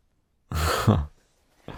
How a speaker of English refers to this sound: I'm breathing a little faster.